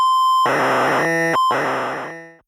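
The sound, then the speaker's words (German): A steady pure test tone sounds briefly, then bursts of harsh, dense electronic data screeching and warbling, interrupted once by the tone again: BASIC programs for calculating prime numbers up to an upper limit, transmitted over the radio as data, each preceded by a fixed-frequency test tone. “Jedem Programm ist aus technischen Gründen ein Messton mit fester Frequenz vorangestellt.”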